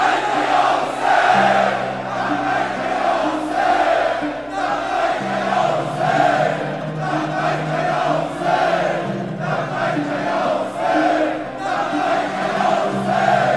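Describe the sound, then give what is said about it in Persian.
A large crowd shouts "Labbayk ya Husayn" together in unison, loud rhythmic chanting with repeated surges, backed by a steady low droning tone throughout. “به عشق همه شهدا، به عشق حاج قاسم عزیز، بلند و یک صدا فریاد بزن لبیک یا حسین.”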